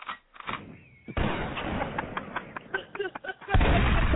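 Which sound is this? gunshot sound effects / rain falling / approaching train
gunshot sound effects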